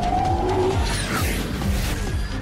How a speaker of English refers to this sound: It was launched last year with speakers in the bumper that mimic the sound of the petrol engine in the petrol engine version of the car.